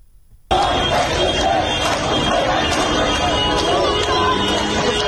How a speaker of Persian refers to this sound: در تهران ماموران امنیتی به تجمع اعتراضی پزشکان حمله کردند. صدای این تجمع رو با هم خواهیم شنید.